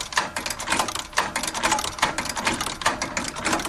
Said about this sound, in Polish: Niektórzy się pytają, właśnie przychodzą klienci, czy ma pan maszynę? To jest podstawa, mieć maszynę do szycia.